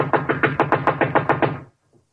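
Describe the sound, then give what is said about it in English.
A rapid series of about nine firm knocks on the wooden door of a house, evenly spaced, ending abruptly and followed by near silence. “Knock again.”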